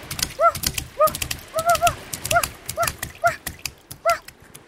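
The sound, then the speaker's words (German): A dog gives a rapid series of short, high-pitched yips, about eight in under five seconds, mixed with sharp clattering taps like quick footsteps. No one speaks. “das ist ja ein schöner Hund.”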